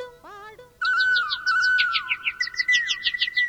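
Several birds chirp and twitter in quick, repeated high notes over a steady whistled tone, close and fairly loud, following a short rising call at the start with no voices.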